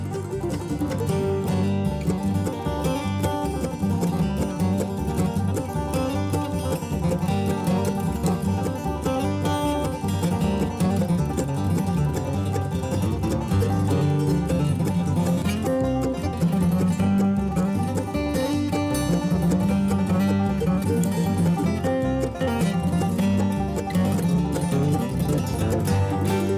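A bluegrass instrumental with a mandolin carrying the tune over steady strummed accompaniment, playing continuously at an even, fairly full volume with no singing or talking.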